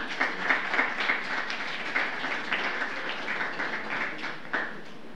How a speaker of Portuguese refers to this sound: Mais uma vez, uma calorosa salva de palmas ao homenageado.